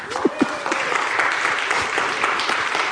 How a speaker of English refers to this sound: Let's welcome them to the pulpit today with a rousing applause.